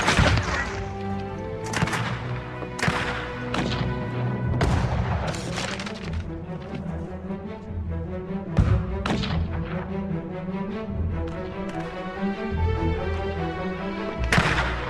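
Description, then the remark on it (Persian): Loud gunshots crack out in irregular bursts, several close together and others spaced seconds apart, over a dense, continuous orchestral music bed with no talking. “مشکل آدم خوبه اینه که نمیتونن درست شلیک کنن.”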